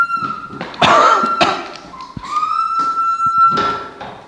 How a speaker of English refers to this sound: Hang on. We're opening a door.